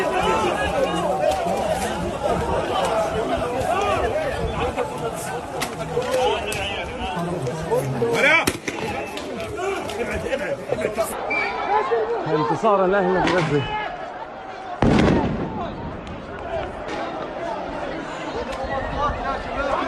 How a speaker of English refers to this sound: So they're firing rubber bullets. There are injuries and tear gas. I believe flash bombs we're seeing. Flashbangs.